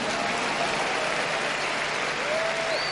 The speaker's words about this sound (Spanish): ¿Cuántos pueden aplaudir y decir: cuenta conmigo, Señor?